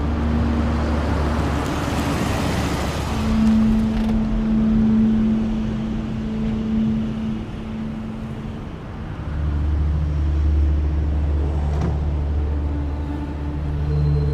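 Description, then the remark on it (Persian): A car engine rumbles with a steady, low droning hum that shifts slightly in pitch as Beigdeli drives the car slowly into the courtyard of a police station. There are no voices. “بیگ دلی با ماشین میاد تو حیات.”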